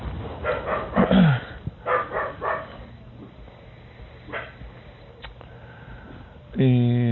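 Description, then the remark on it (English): Dogs bark in short, scattered bursts, with snuffling sniffs in the quieter gaps and a louder drawn-out whine or yelp at the very end. “Ah, the dogs. Stirred up.”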